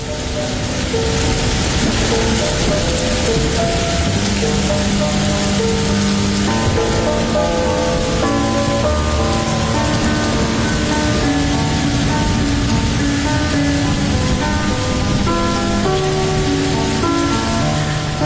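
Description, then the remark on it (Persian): Steady, dense rain pours down onto a surface without pause, a loud continuous hiss, with soft sustained musical tones faintly layered beneath it. “وقتی برف میاد، وقتی بارون میاد، وقتی هوا ابریه، گاهی دلت میگیره، خصوصا تو این آخرین روزای سرد پاییزی که بیشتر به زمستون شبیه تا پاییز.”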